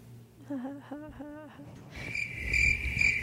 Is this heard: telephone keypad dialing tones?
no